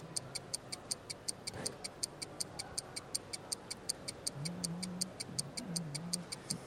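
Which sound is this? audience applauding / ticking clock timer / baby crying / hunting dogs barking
ticking clock timer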